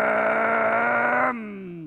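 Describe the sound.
A voice growls out a toy truck engine noise, one steady buzzing hum that holds for over a second, then drops in pitch and fades softer as it trails off.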